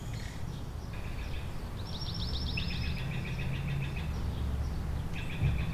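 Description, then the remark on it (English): A bird sings repeated rapid trilling phrases, high and fairly clear, over a steady low rumble of background noise, with no voices. “But where is the bird? Is it in a tree or on the ground?”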